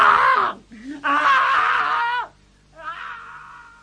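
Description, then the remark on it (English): A woman screams over and over, three loud, wavering cries with short breathless gaps between them, the middle scream the longest and most piercing, on finding a man in a lift with blood running down his face. “His mouth was wide open, and I opened my mouth like his, and I screamed and screamed.”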